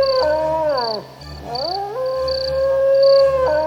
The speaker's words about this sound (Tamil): முடிவில் உண்மையை வரவழைக்க ஒரு நரியை ஊளையிட்டு பாடச் செய்வது என்று முடிவாயிற்று. இங்கிருந்தோ நரி ஒன்று ஊளையிட்டது.